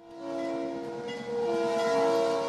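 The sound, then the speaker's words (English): An Iowa Northern locomotive's whistle blows in a sustained, harmonic tone, briefly dipping then swelling again, over the low rumble and rattle of rail cars being switched alongside the co-op elevator's towering grain silos in Forest City, Iowa. “It's been 7 years since folks have heard a train whistle in Forest City, Iowa.”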